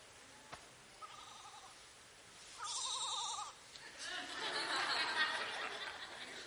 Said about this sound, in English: The sheep making an excuse right there. Una oveja haciendo una excusa.